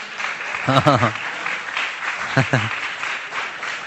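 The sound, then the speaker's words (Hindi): A crowd claps steadily in a dense, continuous patter for the whole stretch, celebrating 400 copies of the Gita distributed, with two short voiced shouts or cheers rising above the applause. “और इस तरीके से कल भी जैसे हम लोग गए थे, 2 घंटे हम लोगों ने बुक डिशन किया और 400 गीता हमारी गई है, बजाओ ताली।”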